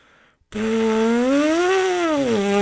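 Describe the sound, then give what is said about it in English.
A trombonist's lip buzz played without the horn, a loud, raspy, sustained tone that bends upward in pitch, holds, then slides back down, after a short quiet moment. “Once you master how to manipulate the muscles in your face, you can control that horse buzz, and you can do things like this.”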